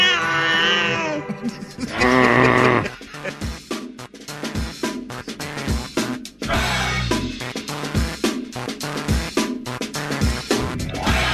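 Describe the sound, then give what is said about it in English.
A cat lets out a long, wavering meow right at the start, then a second shorter yowl follows, both loud, before a busy jumble of background noise takes over. “But hey, cats, you gotta love them.”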